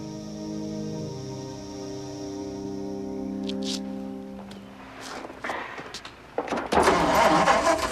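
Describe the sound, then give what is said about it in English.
An engine hums steadily at first, then clatters and catches with a few sharp bursts before roaring loudly into a rough, running rev near the end. “That engine's fine.”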